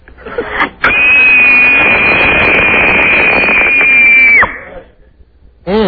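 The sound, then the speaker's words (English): A woman lets out one long, piercing scream in a scream-off contest, held at a steady high pitch for about three and a half seconds, very loud and harshly distorted, with brief rustling noise before and after. “Okay, could we hear a big scream dedicated to Rita?”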